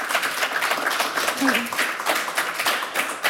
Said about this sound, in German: Und Mitkurator der Ausstellung und Max Ernst-Experte und auch noch Leiter des Museums für Fotografie ist Ludger Derenthal und er ist jetzt zu Gast bei uns. Einen großen Applaus für ihn.